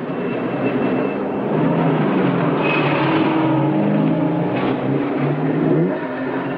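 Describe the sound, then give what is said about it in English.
A car engine revs and accelerates as the vehicle pulls out into traffic, a steady loud rumble with shifting low tones and a whoosh of passing road noise, no voices. “Angelo pulls out into traffic.”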